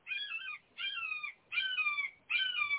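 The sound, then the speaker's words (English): A crow caws four times in a steady series outdoors by a back patio in beautiful, breezy weather, each harsh, drawn-out call slightly falling in pitch, moderately loud with short pauses between and no talking. “Right now, you can hear that. Hear that bird?”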